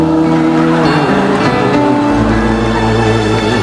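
A fast car roars past, its loud engine whine sweeping down in pitch before settling into a steady low rumble.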